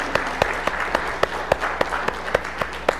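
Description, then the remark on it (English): An audience applauding to cheer on children getting ready to start a new school year: a steady wash of many hands clapping, with sharp, evenly spaced claps standing out in a quick regular rhythm. The applause stays fairly constant and no one is speaking. “can we take a minute and just cheer them on and let them know that you are loved?”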